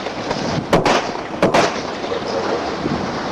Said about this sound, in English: Bunch of shots here. The whole incident was caught on video. A warning here, this sound here is pretty violent.